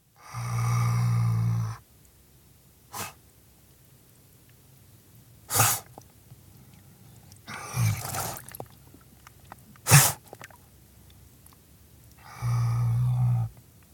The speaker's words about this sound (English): Usually silent, river otters can make soft chips, squeaks, and the occasional growl.